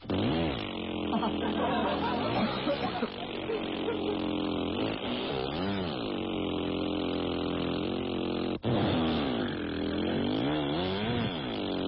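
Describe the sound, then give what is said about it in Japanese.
A whistled imitation of a lawnmower engine, made as an entry for a whistling contest: a continuous buzzing, sputtering drone that rises and falls in pitch, held loud for the whole stretch with one brief break near the end. “まあ聞いてみてくださいということで、芝刈り機です、どうぞ。”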